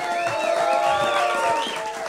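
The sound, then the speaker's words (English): A crowd at the Ellis Mania show applauds and cheers steadily as Luis J. Gomez is introduced, with whoops and rising, falling shouts riding over a dense wash of clapping that stays loud throughout. “If you guys could just clap a little bit louder, these are noise-canceling glasses that Luis is wearing.”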